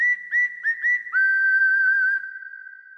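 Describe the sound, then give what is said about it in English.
A loud whistle gives four quick chirps in a rhythmic burst, then holds one long, steady tone that fades slowly into a ringing tail. No voices. “Follow the whistle down to PC Richard in the Tri-State area”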